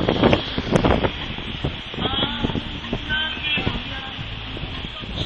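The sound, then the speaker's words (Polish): Strong wind buffets the microphone over a steady roar of surf breaking on a beach at Hel, a constant, loud, rushing wash of noise throughout, as on a stormy shoreline. “To jest prawie najsypniejsza pogoda, jaką sobie można wyobrazić na Helu, ale dotarłem. I teraz wchodzę do morza”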